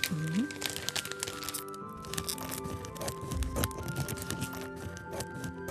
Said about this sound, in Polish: Dobrze, wycięłam prostokąt, ale jest dwuwarstwowy, więc teraz rozcinam złączony brzeg, żeby mieć jedną warstwę.